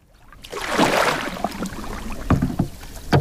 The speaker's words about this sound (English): We're on a river flowing through the countryside of Assam in northeast India. A fisherman casts his net from the bank into this tributary of the mighty Brahmaputra.